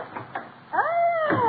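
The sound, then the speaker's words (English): Two quick, muffled knocks on a door as the Duchess of Uppington arrives, followed by a louder, sustained wavering tone that rises and slowly bends downward. No one speaks. “That's one of her dukes banging on the door.”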